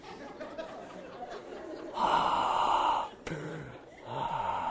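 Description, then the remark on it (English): A voice mimics heavy, rasping respirator breathing like Darth Vader on the phone, with drawn-out hissing inhales and exhales in a slow rhythm, fairly loud, with no words spoken. “Like Darth Vader's on the phone, right?”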